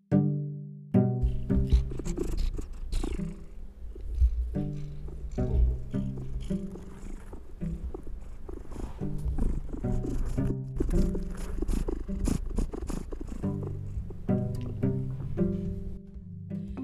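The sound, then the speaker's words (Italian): A cat named Oliver purrs, a steady low rumbling vibration that continues throughout with slight rhythmic pulsing and no one speaking. “Ringraziamo l'ospite della puntata, ovvero le fusa di Oliver.”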